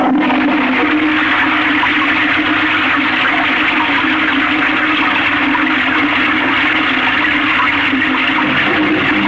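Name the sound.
toilet flushing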